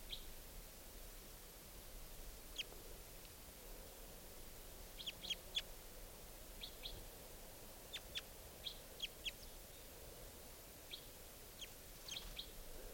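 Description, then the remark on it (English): A wild bird up in a larch, recorded during a field session with playback, gives short, high-pitched chirping calls in scattered bursts, some doubled or in quick clusters, over a steady background hiss. No one speaks. “This is the wild bird.”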